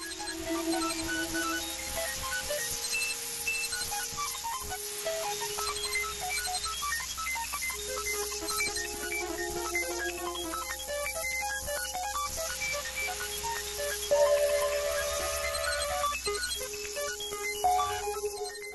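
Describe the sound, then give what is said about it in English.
Electronic music built from many small digital beeps, chirps and sustained tones layered into a dense, buzzing texture, like a swarm of digital cicadas, steady throughout with no voices. “Okay, what are all the little sounds we're hearing that are kind of reminiscent when put all together of cicadas, but maybe digital cicadas?”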